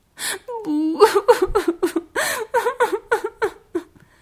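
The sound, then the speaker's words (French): A human voice imitates a small red-haired rabbit sobbing at the foot of a big oak tree: a rapid run of about a dozen hiccuping, whimpering cries, fairly loud, with a sharp gasp at the start, fading out at the end. “Soudain, elle entendit des pleurs. C'était un petit lapin rouquin qui sanglotait au pied d'un gros chêne.”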